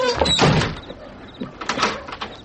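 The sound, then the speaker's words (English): A door swings shut with a solid thud, followed by a few short metallic clicks and rattles as it's locked, with nobody speaking. “Let me lock the door.”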